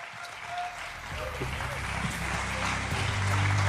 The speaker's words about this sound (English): Round of applause for Justin Drake, everyone.